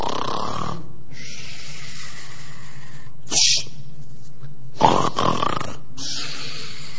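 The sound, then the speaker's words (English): A voice imitates snoring, portraying Jesus asleep on the boat: a series of breathy, rasping inhales and exhales repeating in a slow rhythm, with a couple of sharper, louder snorts partway through. “And Jesus is sleeping away.”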